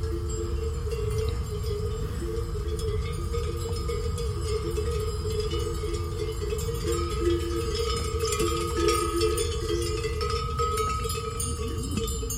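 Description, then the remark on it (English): Metallic bells clank and jingle irregularly and continuously, as if worn by a herd of grazing goats moving about, over a steady outdoor background hum in the Portuguese countryside not far from the coast. “Nice bells.”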